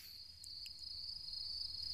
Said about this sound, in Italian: Kiro, hai sentito? Che cos'è? Ah, il grillo. Un grillo. Cri cri cri cri cri cri cri cri cri. Bello.